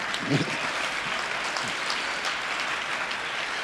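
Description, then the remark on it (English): An audience applauds steadily, a dense wash of clapping hands that holds at an even level throughout, with a brief faint voice or whoop rising out of it near the start. “Also, y'all did some, applaud yourself.”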